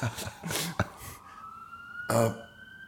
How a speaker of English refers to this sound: I love the sirens. You do? Yeah. Good. Yeah. And I love them just as sound now. I don't love them as emblematic.